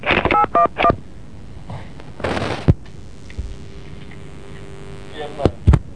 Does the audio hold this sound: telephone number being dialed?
yes